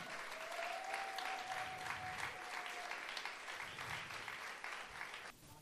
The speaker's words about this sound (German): Während ich es aufschreibe, möchte ich mal großen Applaus für alle vier Poeten und Poeten auf die Bühne bitten, die da wären.